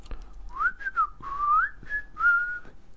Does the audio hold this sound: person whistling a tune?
yes